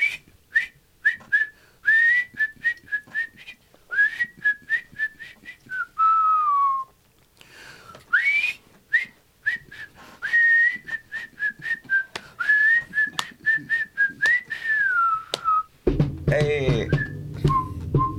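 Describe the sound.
A person whistles a slow, meandering song melody, with short repeated notes and sliding pitches, ending with a brief burst of noise and a faint voice.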